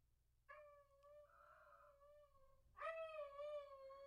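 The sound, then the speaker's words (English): A dog left at home, recorded on a phone set on a counter, howls in two long, drawn-out wails, the second starting louder and higher before settling. It sounds thin, with a faint low hum underneath and no one talking. “You guys finally get to hear what a real Sparkle Howl sounds like”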